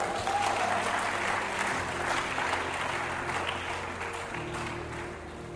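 An audience claps steadily, a dense, continuous wash of applause that holds strong for several seconds and then tapers slightly, with a low sustained hum running underneath.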